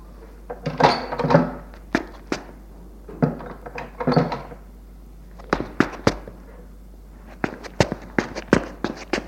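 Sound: door being closed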